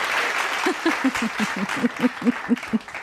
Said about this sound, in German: Kannst du diesen tollen Applaus abspielen? Ja, ich probiere es. Es ist ja auch neu hier. Wo ist er? Der Applaus. Da. Da. Der gehört ganz allein dir.